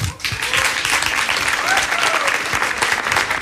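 Steady, dense applause from an audience, a continuous crackle of many hands clapping at an even loudness, with a few faint voices mixed in.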